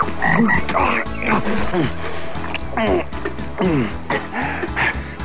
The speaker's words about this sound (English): Ooh, look at that frog!